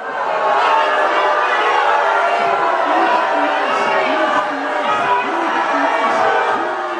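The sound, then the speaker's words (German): Two to three dozen protesters behind a wrought-iron fence shout and jeer steadily at Boris Johnson and Xavier Bettel as they come out of the State Chancellery, many voices overlapping into a loud, continuous roar of protest with scattered louder calls rising above the din. “abgetrennt durch einen hübschen schmiedeeisernen Zaun, 2-3 Dutzend Demonstranten, die Boris Johnson dann begrüßten, als tatsächlich die Türen aufgingen und Bettel und Johnson rauskamen aus der Staatskanzlei.”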